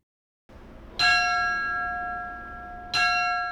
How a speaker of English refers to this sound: That's firefighter Tommy Wolf ringing Woodbury's last alarm.